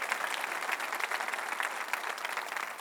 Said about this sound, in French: Une bonne main d'applaudissement pour tout ce que le Saint-Esprit nous offre.